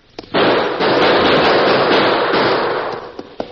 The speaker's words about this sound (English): Then one of the horses whinnied, which was a signal for them to open fire into the cave entrance.